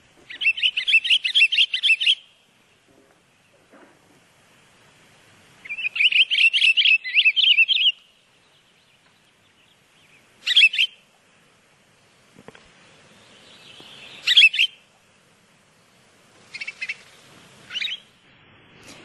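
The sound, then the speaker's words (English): A pine grosbeak sings: two long, warbling phrases of clear, musical notes, followed by shorter bursts of chirps and whistles, heard alone against a quiet background. “So let's see what the pine grosbeak sounds like.”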